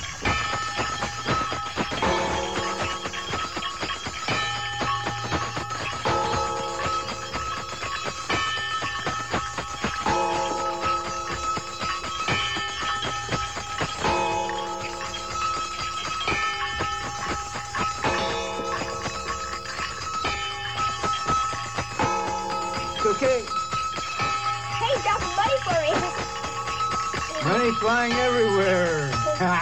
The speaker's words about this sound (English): You just keep playing those bells, and I'm going to spin the top now. Keep playing the bells. Okay, we're going to just watch the top spin, and listen to this.